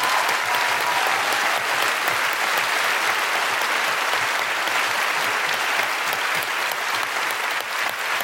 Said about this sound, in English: Big round of applause for Sarah Pascoe, Aisling Bee, Josie Norton, and Steve Alley.